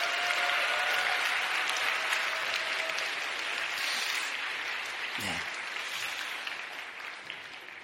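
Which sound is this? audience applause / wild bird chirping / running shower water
audience applause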